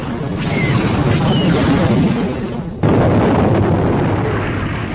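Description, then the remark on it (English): A heavy, roaring torpedo explosion rumble, a second torpedo group hitting and blowing out a cloud of shattered hull metal and transparasteel, fills the whole stretch, dense and low, with a sudden fresh blast partway through that keeps the deep crackling roar going to the end. “the second torpedo group hit, blowing out an impressive cloud of shattered hull metal and transparasteel.”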